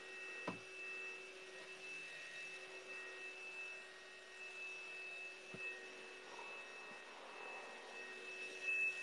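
A vacuum cleaner runs steadily throughout, a continuous whirring drone with a faint high whine, heard at a low level with no one talking and a couple of soft clicks.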